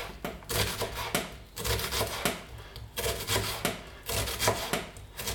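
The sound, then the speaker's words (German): A knife dices an onion into small cubes on a cutting board, a steady run of quick, crisp chops with brief pauses between bursts, fairly loud with no talking over it. “Jetzt schneiden wir hier die Zwiebel in kleine Würfel.”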